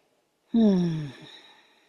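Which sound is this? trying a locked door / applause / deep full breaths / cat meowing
deep full breaths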